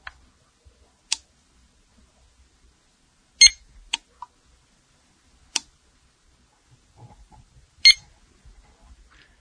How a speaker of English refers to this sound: These beeps are not very loud, but if you listen carefully, you can hear them. I will now boost up the gain on the recorder and attempt to record the beep as I press and hold the lock, once to lock it and once to unlock it.